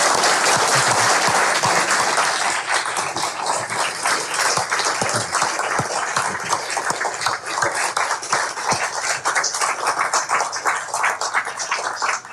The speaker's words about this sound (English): a round of applause for Richard Haass